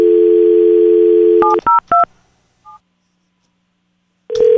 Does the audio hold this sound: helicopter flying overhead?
no